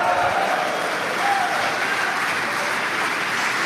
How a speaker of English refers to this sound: Just cheer if you're in a cult.